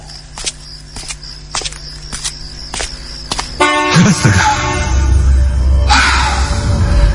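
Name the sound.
car horn honking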